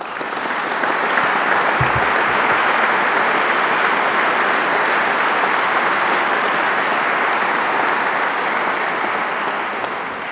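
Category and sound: crowd, audience applauding award winners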